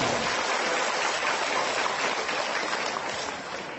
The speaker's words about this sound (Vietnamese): Con kính bạch sư phụ cùng đại chúng, cho con một tràng pháo tay để ôn tụng một Phật.